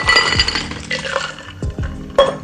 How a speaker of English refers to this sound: I pour it into a rocks glass